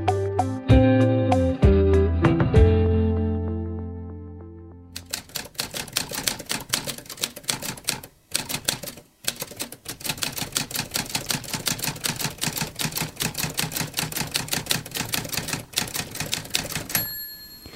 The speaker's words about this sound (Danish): det vi hører her, det er jo sådan, jeg forestiller mig, at de store forfattere, de har siddet en gang, bøjet ind over skrivebordet med et vildt udtryk i øjnene og hastige fingre over tasterne på skrivemaskinen.